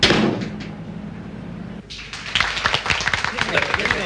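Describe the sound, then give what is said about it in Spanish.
A group of restaurant employees breaks into steady, scattered applause, many overlapping claps forming a dense patter that starts after a brief quieter stretch with a low hum and a soft thud. “Los empleados aplauden.”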